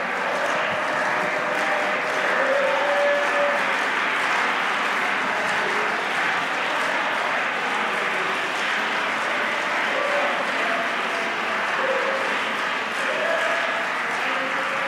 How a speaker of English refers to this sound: Stand up and clap your hands unto the Lord right now.